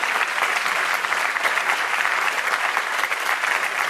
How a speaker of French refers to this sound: Vous l'entendez, les applaudissements sont chaleureux et nourris pour ce formidable duo qui nous ont été offerts ce soir.